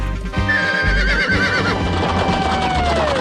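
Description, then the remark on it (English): A horse named Lightning neighs in a long, loud whinny whose high pitch wavers and then slides downward, over a steady background rumble and some low thuds. “Sorry to wake you up, Lightning, but this is an emergency.”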